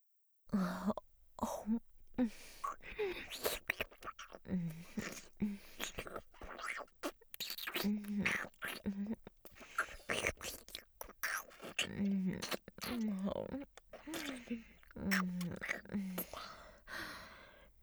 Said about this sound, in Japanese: 私の息遣い、唾液の音、いっぱい感じてください。